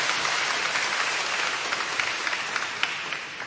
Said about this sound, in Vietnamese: Rồi chúng ta thấy rất là đông anh chị em từ giáo xứ khác, chúng ta hân hoan đón chào những anh chị em ấy một tràng pháo tay thưa anh chị em.